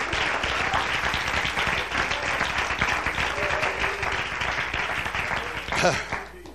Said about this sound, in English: Clap your hands, would you? Love the Lord.